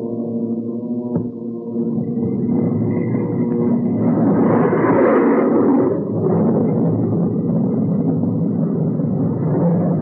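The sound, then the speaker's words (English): The jet engine of the FS2 aircraft, switched on by Captain Mayo in flight while carried by a B-29 at 225 miles per hour, spins up from a low, humming drone into a loud, sustained roar that swells midway and then holds steady, with no voices. “Then Captain Mayo switched on our jet engine.”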